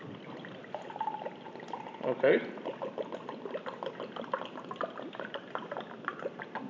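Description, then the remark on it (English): Juice pours steadily into a partly filled cup, a continuous splashing trickle lasting several seconds, with a voice briefly speaking partway through. “And then I'm going to pour.”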